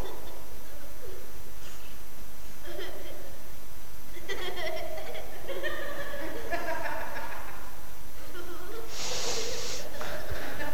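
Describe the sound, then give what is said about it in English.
A child takes one quick, sharp sniff of something offered to smell, near the end, after some murmured voices and small vocal noises. “You know, do you want to have a sniff? Actually, you mean have a sniff or else.”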